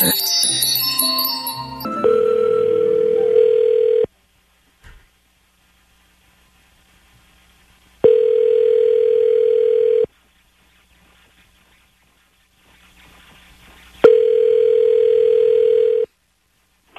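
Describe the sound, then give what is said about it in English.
A brief burst of clattering noise, then a telephone ringback tone while calling back a man who hung up: three steady, mid-pitched two-second tones separated by about four seconds of silence, loud and alone with no talking. “He hung up.”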